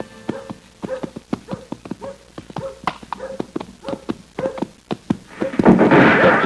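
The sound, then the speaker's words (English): A horse's hooves clip-clop in a steady, uneven rhythm of sharp knocks as a kid rides it on a hot, dry day, before a burst of broad rushing noise takes over near the end. “Kid, get off on that horse and get over here.”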